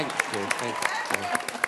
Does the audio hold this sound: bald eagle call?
no